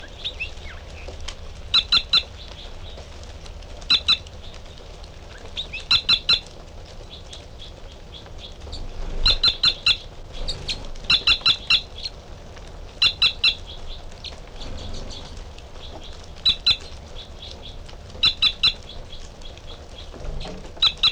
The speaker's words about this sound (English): It's the female. And the male giving song phrases behind.